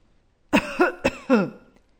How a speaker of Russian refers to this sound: Сначала она услышала старческий кашель.